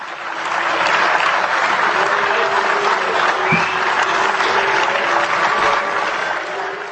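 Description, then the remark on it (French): Sustained applause from a large crowd in the European Parliament, reacting to the Czech head of state speaking about the Lisbon Treaty, dense and steady throughout, with a faint whistle or two rising briefly above the clapping and murmuring voices. “Applaudi donc et sifflé par d'autres à propos du traité de Lisbonne qu'une des chambres du Parlement tchèque avait ratifié la veille, le chef de l'État n'a pas mâché ses mots non plus.”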